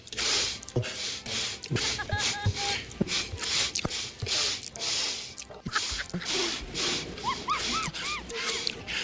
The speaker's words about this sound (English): No repeats. There's no repeats in this audio. He was sniffing like a maniac. Yeah, he was sniffing up a storm.